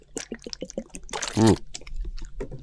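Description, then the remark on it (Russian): An aloe drink of the Tibet brand, labelled original, is poured from a bottle, with short gurgling splashes building to one loud, glugging gush midway, then easing into softer trickles and drips. “я тут недавно открыл для себя бутылочку алоэ, пришлось по интернету заказывать, уж извините, зато привезли.”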